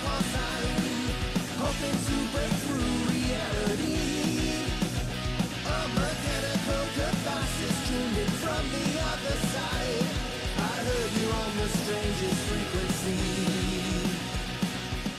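A band's song plays loud and dense for the whole stretch, with full instrumentation at a steady volume and a melodic vocal line riding over it.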